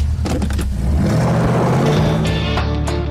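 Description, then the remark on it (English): A powerful Chevy Camaro engine revs loudly in the desert, its deep throaty rumble climbing in pitch over a few seconds, with brief whooshing bursts layered on top and no talking. “So the entire ad is her in this like Chevy Camaro in the desert, and she's driving”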